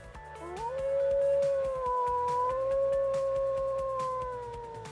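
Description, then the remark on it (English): Several wolves, wolf dogs and coyotes in the Rocky Mountains howl together in answer to a tour group's howl, in long, sustained, overlapping wails that rise at the start and hold steady, fairly loud, with no one talking. “Then all the wolves, wolf dogs, and coyotes return the favor.”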